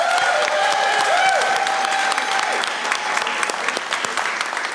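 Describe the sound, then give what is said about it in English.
A live audience at Terminal West claps steadily and loudly for comedy guests Brian Unger and Baron Vaughn and the staff and volunteers, dense applause with a few faint whistles or cheers rising over it, fading slightly toward the end. “One more big round of applause for them.”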